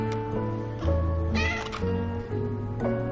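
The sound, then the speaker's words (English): A cat watching a woman eat peach cobbler meows several times in a row, drawn-out, wavering cries that rise and fall in pitch, fairly loud, with no one talking. “She takes a bite as her cat watches.”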